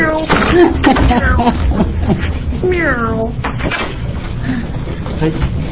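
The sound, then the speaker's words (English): A person imitates a cat's meow during a legislative committee hearing on Senate Bill 97, a drawn-out rising and falling vocal mew standing out over other voices murmuring in the background. “I'm just referring to herding cats.”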